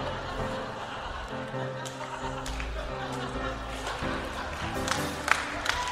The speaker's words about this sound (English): Are you clapping that?